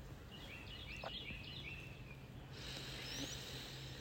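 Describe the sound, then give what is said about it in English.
Faint birdsong outdoors: a few thin, high chirps and short trills repeat over a steady low background hum, with no one talking. “I'd like to sit here for a minute with my birds.”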